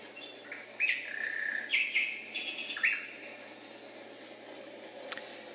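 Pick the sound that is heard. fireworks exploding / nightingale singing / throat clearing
nightingale singing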